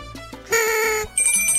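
bell ringing

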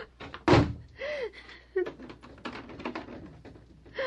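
door being slammed shut

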